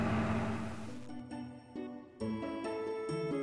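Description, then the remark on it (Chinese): A car engine bursts into life with a loud, noisy roar, then settles into a steady droning hum that rises in stepped surges as it revs, prominent with no talking. “当迪克爬上鲸背时，鲸摇着巨大的尾巴，发出一种汽车引擎般的声音，出发了。”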